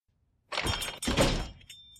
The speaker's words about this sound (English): Someone had to clean up shattered crystal bits for their patrol's friend.